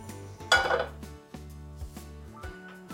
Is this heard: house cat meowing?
no